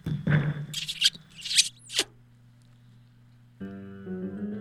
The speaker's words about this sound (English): Tom, just let me move this chair.